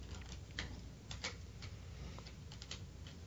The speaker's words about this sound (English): Once again, folks, he's shuffling the deck.